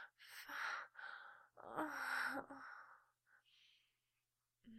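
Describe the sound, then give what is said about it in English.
A woman gasps and sighs in a string of breathy, voiced bursts, rising into a sharp, strained catch of breath before fading into softer exhales and quiet pauses. “gasping.”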